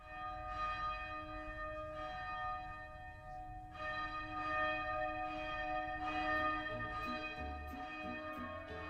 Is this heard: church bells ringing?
yes